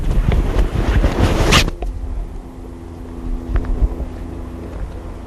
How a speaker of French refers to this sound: Le bus est là.